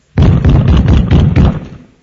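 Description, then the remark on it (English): A loud, heavy knocking at the door of a home, about six forceful blows in quick succession, followed by a short fading echo. “I don't know how many of you have had the experience of, at your precious home, at the door, all of a sudden a noise like this.”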